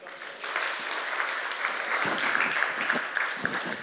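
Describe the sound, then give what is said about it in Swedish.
An audience breaks into sustained applause, a dense, steady patter of many hands clapping together for several seconds, with a few faint voices mixed in. “En applåd.”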